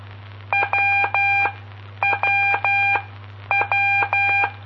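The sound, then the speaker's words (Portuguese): A buzzy electronic tone keys the Morse letter W, one short beep then two long ones, repeated three times with brief pauses between groups, over a steady low hum. “Essa foi W de Whisky.”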